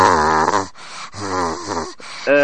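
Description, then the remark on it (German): A voice imitates the raspy coughing of men heard on the telephone: three strained, throaty bursts, the first two long and groaning, separated by short gaps, with a third starting at the end. “Und da sind dann immer Männer dran, die haben Husten und so. Ganz kratzig.”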